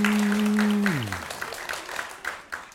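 An audience applauds in a dense wash of clapping that gradually thins out. A low sustained tone plays alongside and slides downward before dying away. The audience is applauding a contestant's answer about the creepiest red flag in dating.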